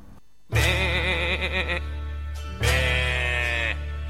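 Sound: sheep bleating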